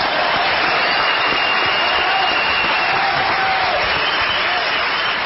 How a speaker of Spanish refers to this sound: Y al oír Formosa es cuando las muchedumbres estallan en un grito de júbilo. Formosa. ¡Bravo!